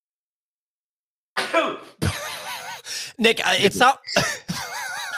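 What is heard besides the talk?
sneeze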